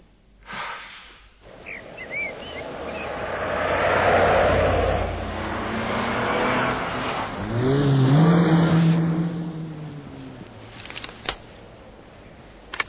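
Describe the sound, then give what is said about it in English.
Engines of a convoy of two cars and a jeep rumble and rev as they pull away, turning north onto the main highway, the engine note climbing in pitch as they accelerate, then the roar fades to faint rustles and clicks. No one speaks. “Bond's just left in convoy. Two cars and a jeep turning north onto the main highway.”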